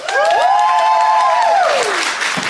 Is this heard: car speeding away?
no